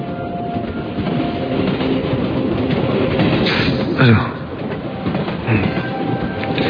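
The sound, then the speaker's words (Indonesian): A train rolls along the rails with a loud, steady rumble and faint clatter as it slows down to a very slow pace. A brief metallic squeal rises midway, and a person lets out a short exclamation. “Ketika aku bangun, kulihat kereta ini menurunkan kecepatannya.”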